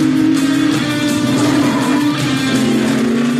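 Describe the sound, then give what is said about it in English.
Loud, continuous engine roar of race cars speeding to the finish line as Cole Trimble takes the win, a steady droning whine with sustained tonal hum and no pauses, dominant with no talking. “Here come the cars to the finish line.”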